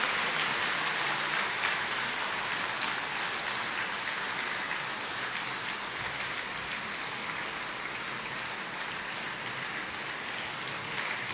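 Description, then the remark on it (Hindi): A dense, steady wash of audience applause welcoming guests at a Baba Milan gathering, many hands clapping at once into a continuous crackling roar that holds an even loudness for about eleven seconds, with no voices. “तालियां बजाते रहिए, अपने मन की खुशी प्रकट करते रहिए।”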